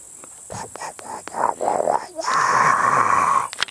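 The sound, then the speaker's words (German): A moor soundscape: a run of rhythmic, croaking pulses gives way to a loud, steady buzzing drone like swarming insects, continuous before it cuts off. “Wie klingt das Moor? Genau, ihr habt recht. Es klingt so.”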